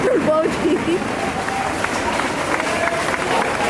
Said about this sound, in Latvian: Daudz no aktīvistiem, kuri sargāja ieeju iecirknī ar aplausiem sagaidīja cilvēkus, kas nāca ārā.